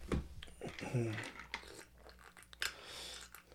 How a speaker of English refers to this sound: Sorry for my slurping. I'm thirsty.